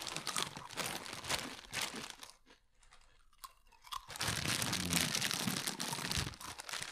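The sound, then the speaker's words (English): Loud crunching of dry Fritos Originals corn chips, a dense run of crisp chewing crackles that briefly drops to a quieter lull before resuming just as hard and busy, with no talking. “Nothing your viewers want more to hear than a nice, dry, crisp just crunch.”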